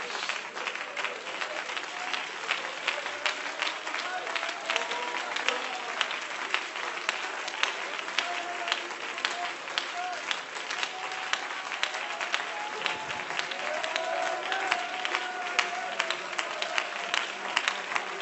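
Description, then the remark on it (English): An audience stands in the sanctuary and claps their hands to the Lord steadily for about eighteen seconds, a dense, even wash of many hands with a few voices faintly audible underneath. “Stand and clap your hands to the Lord, everybody, in this sanctuary.”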